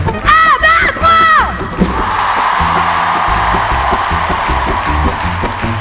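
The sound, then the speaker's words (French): A large crowd at the Festival de La Rochelle cheers and shouts loudly for the festival's organisers and workers, starting with a burst of high whooping voices, then settling into a sustained, roaring wall of applause and yelling that carries through to the end. “Et à tous les gens qui nous ont accueillis ici, les gens qui organisent, je voudrais qu'on fasse un gros big up et qu'on crie très très fort.”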